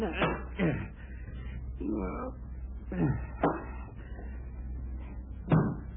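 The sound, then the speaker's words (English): A book is knocked off a bedside night table, landing in a few dull, uneven thumps and knocks spread across several seconds over a low steady hum. “Knocked the book off Dean's night table.”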